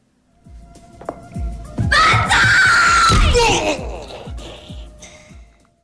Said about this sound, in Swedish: Ett högt skrik följt av lågmäld dialog. I domen som senare kommer att utfärdas står det att det inte går att utesluta att det kan ha varit detta skrik som grannarna har hört.